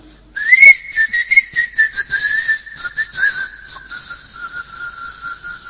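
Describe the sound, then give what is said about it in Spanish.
A person whistles a steady, sustained tune for several seconds, the pitch wavering slightly with small fluttering inflections, fairly loud with no talking. The whistling is a way to summon an angel, as Edward Kelly Talbot did. “Decía que la mejor manera de convocar a un ángel era silbar.”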